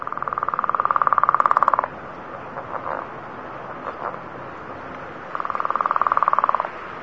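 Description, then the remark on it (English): A leopard frog's low tapping call: two bursts of rapid, rattling pulses, each lasting a second or two, with a few soft, scattered taps in the quiet gap between them. “Still, leopard frogs can be found throughout Utah. Keep an ear out for their low, tapping call.”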